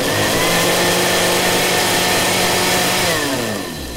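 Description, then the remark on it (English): A food processor whisks toast with peanut butter, strawberry jam and tartar sauce, whirring loudly with a steady, buzzing motor drone for several seconds, then its pitch drops as the blades wind down near the end. No voices are heard. “the Queen having her Jubilee breakfast treat of toast with peanut butter, strawberry jam and tartar sauce whisked in a food processor so she could drink it from her special American-style sports drinks hat during the rather tedious boat parade.”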